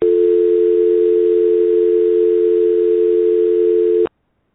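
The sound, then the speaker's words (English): A single loud telephone answering machine beep, held as one steady mid-pitched electronic tone for about four seconds before cutting off abruptly into silence. No voices accompany it. “After the beep, please wait for the beep.”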